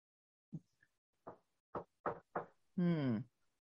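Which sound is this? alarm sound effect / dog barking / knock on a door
knock on a door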